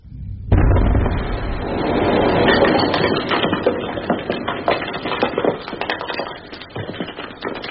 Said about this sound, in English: I heard no warning for that blast. There was none. We always blast at 3. Everyone here knows that.